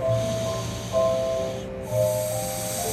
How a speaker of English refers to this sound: There's also a community center, a gym, and an on-site daycare where snoring toddlers nap on a winter afternoon.